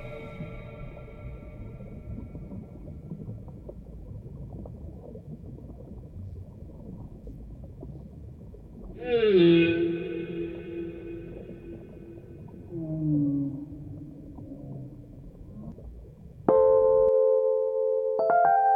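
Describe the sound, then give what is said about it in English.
Whale song rises out of a low, rumbling ocean wash: long tonal calls that sweep and slide in pitch, with a sharp, loud moan near the end, no voices present. “And we admire them. Huge. Singing. Singing. Seeing us clearly as they sing.”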